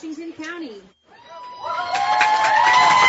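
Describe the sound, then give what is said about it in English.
A lone voice calls out briefly, then after a short pause a large ballgame crowd at a Little League All-Stars game (Grimes County vs. Washington County) erupts in cheers and shouts as the Washington County lineup is announced, swelling steadily louder and staying loud to the end. “It is a large crowd here today.”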